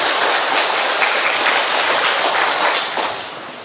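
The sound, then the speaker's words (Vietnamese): A large church audience applauding to give thanks to God and to one another: a dense, steady wash of many hands clapping at once that holds evenly for several seconds before tapering off at the end. “Chúng ta tạ ơn Chúa và cảm ơn nhau một tràng pháo tay, thưa anh chị em.”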